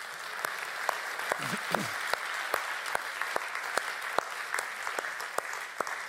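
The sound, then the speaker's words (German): A small audience claps steadily for several seconds during a church service, after a reading of the Christmas story; sharp individual hand claps stand out over a continuous patter, with a faint voice murmuring briefly. “Ja, ich finde, ihr dürft schon mal klatschen, ne?”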